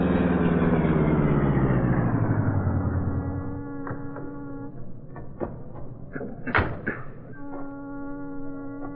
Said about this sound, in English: Cato drove in the Black Beauty to the docks at the foot of Water Street. There, the powerful streamlined car was brought to a stop in the shadows.